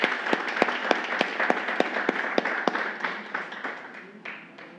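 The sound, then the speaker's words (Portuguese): A warm round of applause from a sizable crowd at an honorary ceremony for a woman receiving a tribute, dense clapping with a few sharp individual claps standing out, steady for several seconds and tapering off at the end. “Pedimos uma calorosa salva de palmas à excelentíssima senhora”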